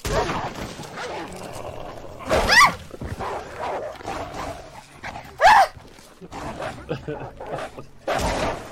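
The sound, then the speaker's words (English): A big wolf barks and snarls in loud, harsh bursts, two sharp outbursts a few seconds apart and another near the end, with a voice talking underneath between them. “This is a big wolf.”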